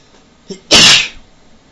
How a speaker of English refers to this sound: I'm going to make my tickle my nose and make myself sneeze.